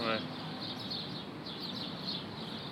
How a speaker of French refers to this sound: Aujourd'hui, direction Vieux-Port. Il y a un beau concert d'oiseaux ici.